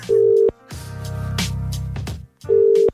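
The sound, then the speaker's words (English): A phone ringback tone plays in two steady, mid-pitched bursts, separated by a gap filled with a lower, buzzing warble, the repeating pattern of an outgoing call to a mother's phone waiting to be answered. “so we're going to call through.”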